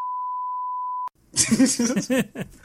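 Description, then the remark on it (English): A single loud, steady censor bleep holds one pure pitch for about a second over a spoken word, cutting off abruptly before someone starts speaking. “That's getting beeped.”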